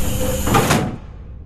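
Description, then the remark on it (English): The door to a person's room slides and shuts in one short, fairly loud motion, with a brief rumbling scrape that ends abruptly and leaves quiet behind it. “You want to come into my room? Alone? With the door closed?”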